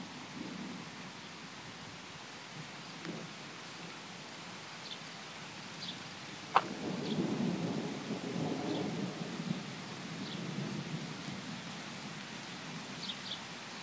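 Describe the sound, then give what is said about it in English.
Steady heavy rain hisses throughout a thunderstorm moving in from the west at 30 to 40 miles an hour, broken midway by a sharp crack of thunder that rolls into a long, low rumble beneath the downpour. No voices. “And the rain picks up ever so quickly.”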